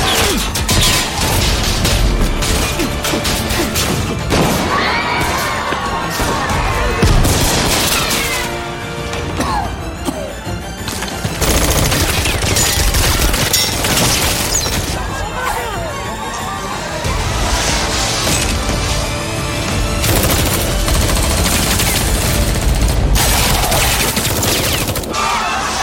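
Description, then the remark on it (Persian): Loud, dense bursts of gunfire crackle in repeated volleys with crashing impacts during an ordered attack, fired near a door, nearly continuous over a chaotic, noisy background with faint voices mixed in. “ماتیاس آماده دستور شلیک باش.”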